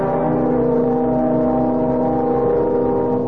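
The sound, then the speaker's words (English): A car engine hums steadily as the vehicle pulls away and accelerates, heading for the airport, a loud continuous motor drone with no voices. “And I'd better get going. Traffic to the airport might be heavy.”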